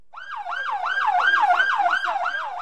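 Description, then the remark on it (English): A loud ambulance siren wails in a rapid, repeating up-and-down yelp, about four cycles a second, steady, as ambulances arrive at a hospital entrance in Ajdabiya, eastern Libya, bringing wounded from the front lines in Benjawad, with no voices over it. “Ambulances come screaming up to the hospital entrance.”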